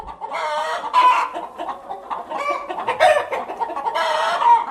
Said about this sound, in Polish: Tu śmierdzi. No szkórnik. No to cicho kury.